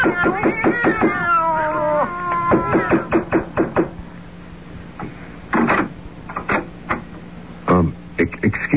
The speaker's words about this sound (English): Do you have cats in there? No. Cats? Didn't you hear them? No. You didn't hear the sound of cats just now? No, I didn't.